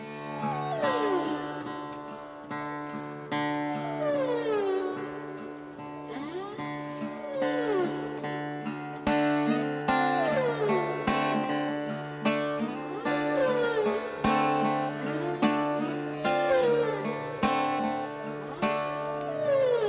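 Sweeping, swooping whale and other cetacean calls, recorded by a bioacoustics and field-recording pioneer, glide up and down over a steady musical backdrop of sustained tones, repeating in long arcs throughout with no talking.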